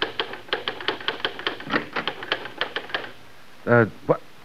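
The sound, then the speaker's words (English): Rapid mechanical typewriter keystrokes clatter in a quick, uneven rhythm for about three seconds, fairly loud, as the society writer Christopher Hudson types in his study in an Inspector Thorne murder drama, then stop as a voice briefly speaks. “As tonight's Inspector Thorne murder case opens, we see Christopher Hudson, the successful society writer, working at the typewriter in his study.”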